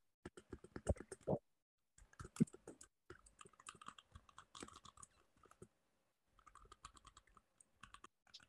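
Rapid clacking of keys on a computer keyboard, typed in quick bursts with a few short pauses between runs. The clicks are crisp, with no voices.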